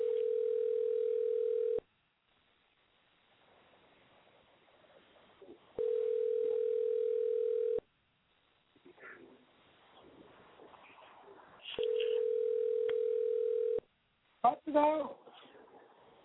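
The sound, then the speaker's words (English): A telephone line tone sounds three times while a call is placed to some women who do not answer, each steady two-second beep followed by a pause, loud and clear over faint background hiss, with a brief voice at the end. “The girls ain't answering their phone, honey. I was trying to get the girls up here on the line.”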